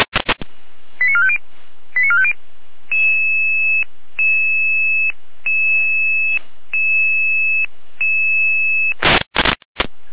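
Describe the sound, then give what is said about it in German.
Radio dispatch alert tones alerting a Red Cross unit in Saalfeld to a call in Kröllpa: two quick bursts of stepped beeps, then a steady series of sustained electronic tones repeating about once a second, framed by sharp bursts of radio static at start and end. “Alarmierung, Rotkreuz Saalfeld 5821, Rotkreuz Saalfeld 5821, für euch bitte nach Kröllpa, Ortsteil Herrschdorf am Anger.”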